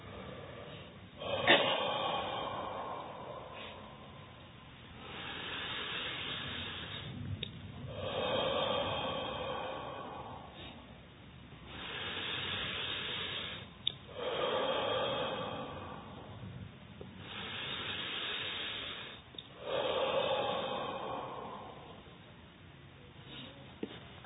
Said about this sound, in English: Let's go 9 round breathing meditation.